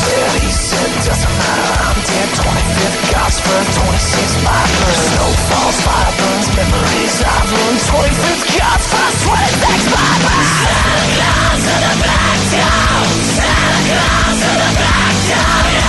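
A loud, dense rock track plays at full volume, with a male vocalist yelling and screaming over heavy, driving guitars and drums throughout.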